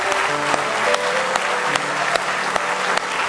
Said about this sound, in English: Oh, you can beat that. Give him a real good hand clap of praise.